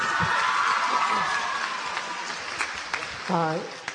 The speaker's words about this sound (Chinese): 所以今天不但是金曲奖后我们第一次表演，也是阿拱第金曲奖后第一次回到关渡，大家给阿拱一点掌声。